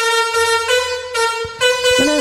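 A car horn honks out a song melody, a string of loud sustained blasts changing pitch note by note, harsh with brief gaps between phrases.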